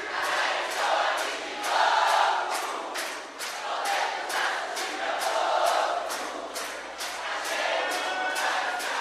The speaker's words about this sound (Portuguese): Bate na palma da mão, bate na palma da mão. A bateria vai parar e vai ficar só as palmas de vocês. Vamos lá? Um, dois, três. Bate palma e canta junto.